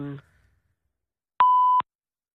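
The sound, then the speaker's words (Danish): An answering machine beep on the voicemail of a politician whose phone is switched off: one loud, steady electronic tone lasting under half a second, following a moment of silence after a brief trailing voice. “Velkommen til telefonsvareren.”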